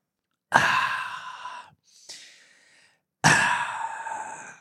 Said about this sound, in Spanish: voy a tomar un poquito de café, disculpen.